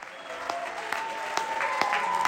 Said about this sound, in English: That applause you're hearing isn't what happened at the end of the show. That was the applause that I was talking about as the lights went down, and that carried on for a glorious 150 seconds.